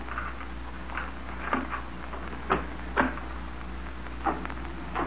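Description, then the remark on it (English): A door is eased open quietly: a handful of soft clicks and muted knocks spaced over a few seconds, against a steady low hum with no talking. “Open the door quietly”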